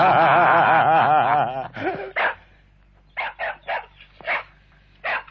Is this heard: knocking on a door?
no